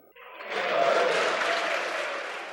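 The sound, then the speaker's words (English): A crowd breaks into steady applause mixed with cheers during Pennsylvania Governor Wolf's speech to lawmakers on the budget in Harrisburg, the clapping swelling quickly after a brief quiet start and holding loud and dense before tapering slightly. “Not everyone was cheering, but Republican Senator Mario Scavello of Monroe County took the jibe in stride.”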